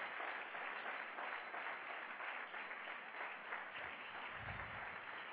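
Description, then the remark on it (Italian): Sustained applause from a crowd for the pastors of Empoli, a dense, steady wash of many hands clapping at even loudness for several seconds, with no voices standing out. “Facciamo un applauso.”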